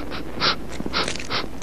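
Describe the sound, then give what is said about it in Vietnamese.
A puppy pants in quick, breathy bursts, several short huffs in a steady rhythm, fairly soft, with no one talking. “Thì ra là một con chó con.”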